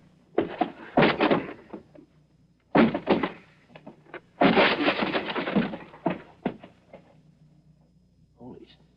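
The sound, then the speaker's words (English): A door being forced open: a few heavy thumps and cracks in quick bursts, then a longer crashing, scraping burst as it gives way, fading to quiet. “Stand back. I'll force the door.”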